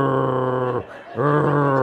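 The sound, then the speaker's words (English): A voice imitates deep snoring: two loud, low, rumbling drawn-out snores with a brief breathy pause between them, with no other sounds. “They were on their knees, so they looked like they were praying, but I could hear them snoring. Deep.”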